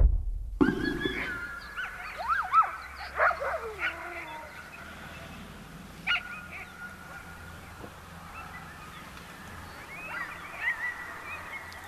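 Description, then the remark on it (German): Several bored dogs in Greenland whine for food in high, wavering cries that rise and fall, with occasional short yips, over a low, steady outdoor background hum, on Greenland's national holiday, 21 June. “Junge Menschen tragen traditionelles Gewand, Kinder fahren Rad, Männer spielen Fußball und gelangweilte Hunde winseln um Fressen.”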